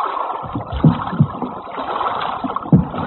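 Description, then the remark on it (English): A boat is dragged under a wall, scraping and sloshing through water with a steady watery churn broken by a few heavier thuds and splashes. No voices are heard. “We'll drag the boat under the wall.”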